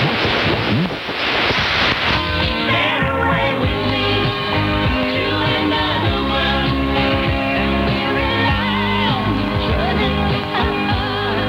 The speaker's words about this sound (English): As you could hear, there was significant interference on 8 to 90 kilohertz caused by 880's iBox signal.